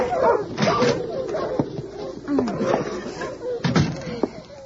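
Several sled dogs bark and yelp in quick, overlapping bursts, mixed with thumps and what sounds like a door banging as the team, just unharnessed, bustles into a snowbound wooden cabin.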